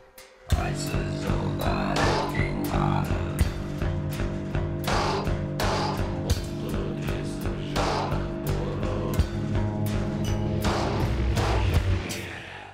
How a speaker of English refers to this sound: They're from the border between China and Kazakhstan. They use a lot of acoustic metal banging and homemade instruments as an explicit commentary on industrialization in Central Asia.